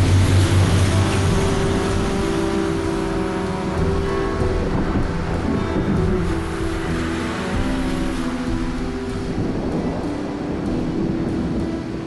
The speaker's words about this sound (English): He drives the 18-wheeler through the rain, streetlights blurred in the windshield. He drives up to a motorway toll gate.